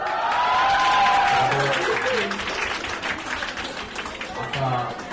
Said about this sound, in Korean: 학생들이 환호성을 지릅니다.